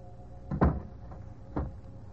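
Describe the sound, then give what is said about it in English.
A door shuts with a solid thud, followed about a second later by a second, softer knock, against a low background hum. “Closing door finishes a story.”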